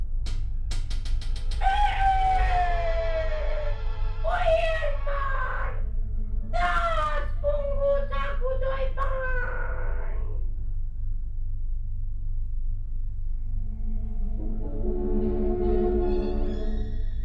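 A rooster crows at a boyar's window in a told folk tale, in a few loud, strained bursts, each harmonic cry sliding downward in pitch, over a steady low hum. A lower, rougher tonal sound follows after a pause.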